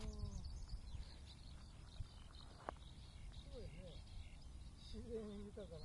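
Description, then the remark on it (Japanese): A skylark sings faintly over a housing development site where many skylarks live, its thin, high warbling running on and off over a steady low outdoor rumble, with a voice briefly audible near the end. “これ、今、一番鳴いてるのヒバリですね。”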